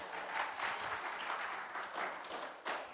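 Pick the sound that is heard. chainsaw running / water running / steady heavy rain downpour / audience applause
audience applause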